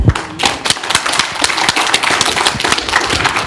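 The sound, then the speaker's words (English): An audience applauds Dr. Nettles steadily, many hands clapping in a dense, irregular patter that stays loud throughout, with no voices rising above it. “Let's give Dr. Nettles a round of applause.”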